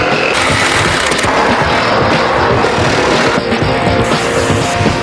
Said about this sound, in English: Torch that underside, babe. Think it might be quicker with the Sawzall.